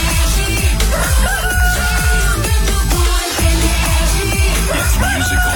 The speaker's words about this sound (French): Qu'on amène le coq.